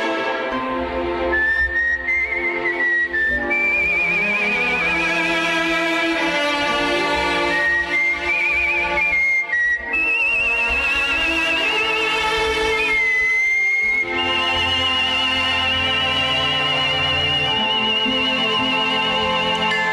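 A person whistles a lilting melody over a full orchestral accompaniment, the bright sustained tones gliding between notes and carrying clearly above the band for the whole stretch.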